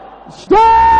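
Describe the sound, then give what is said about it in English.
After a brief low murmur, a crowd of voices suddenly erupts into loud, sustained, forceful shouting, held at full strength to the end. People at an altar are shouting a prayer with holy anger in the name of Jesus. “Those of you at the altar, let your voice roar like thunder.”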